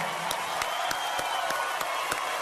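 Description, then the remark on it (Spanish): Dense, steady crowd applause for the young Venezuelans who go out to the streets risking their lives, a continuous wash of many hands clapping with a few sharper claps standing out at regular intervals, and no one speaking. “Yo quiero un fuerte aplauso para ellos, señores.”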